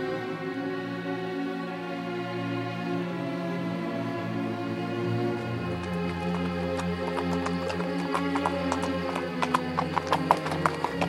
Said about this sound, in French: Le cheval marchait gaiement.